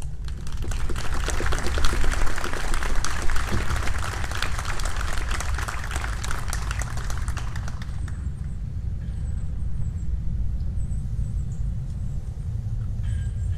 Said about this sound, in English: please recognize her with your applause.